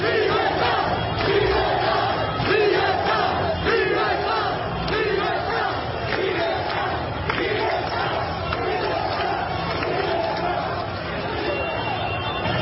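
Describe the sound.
A large outdoor crowd of protesters in the streets of Cuba, protesting against the communist government, chants for freedom together in a loud, steady rhythm, many voices shouting repeated phrases in unison throughout, with dense crowd noise and shouting filling the background.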